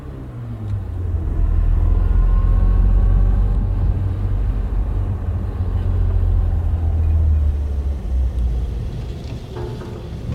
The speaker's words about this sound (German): Was ist mit dem Motor? Läuft weiter.